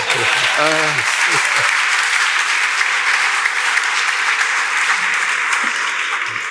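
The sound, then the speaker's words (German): Steady, sustained applause from an audience fills the whole clip at an even loudness, with a brief spoken voice audible at the start underneath the clapping. “Nochmals Applaus, bitte.”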